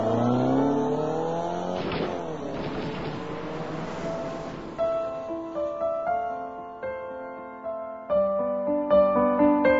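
A car engine roars as its driver steps on the gas to get away while being shot at, its pitch climbing steadily, then it shifts gear and drones on noisily before giving way to music with plucked, melodic notes.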